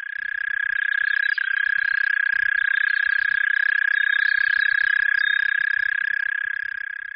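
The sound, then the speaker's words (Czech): A mole cricket, an orthopteran insect, sings a steady, unbroken churring trill, a loud buzzing hum held at one mid-low pitch for the whole stretch, with no voices or other sounds. “Pro srovnání si poslechněme ještě krtonožku, která patří k rovnokřídlému hmyzu.”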